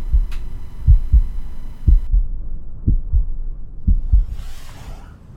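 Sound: heartbeat sound effect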